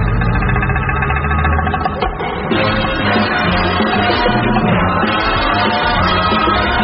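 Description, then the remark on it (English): A vehicle engine rumbles steadily as a trailer, not a car, draws in: a low, loud drone with a mid-range growl that holds for several seconds, with no voices. “Here comes the car. Hang on, it's not a car.”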